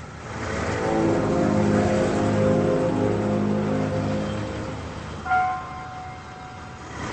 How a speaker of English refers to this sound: Denny's wife gets in the car and pulls away